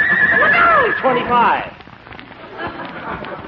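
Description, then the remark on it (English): A horse lets out a loud, wavering whinny that rises and falls for about a second and a half, then trails off into softer, scattered background noise. “Yes, Earl, he's a splendid piece of horse.”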